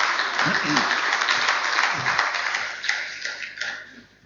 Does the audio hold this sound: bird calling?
no